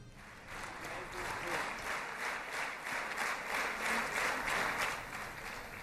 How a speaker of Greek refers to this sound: Και Νετανιάχου χειροκροτούν.